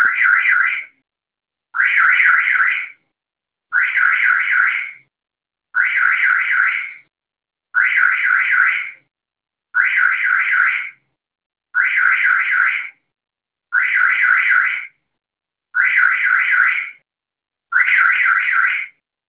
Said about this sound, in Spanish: Motivo de mi llamada es que se activó la alarma y no la puedo apagar.